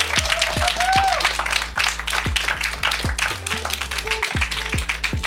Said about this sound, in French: tonnerre d'applaudissements, merci.